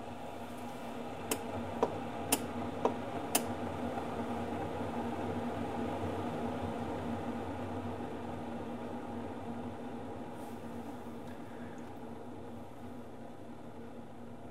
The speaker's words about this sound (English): Okay. And it should be just about ready. You heard that solenoid click a couple times.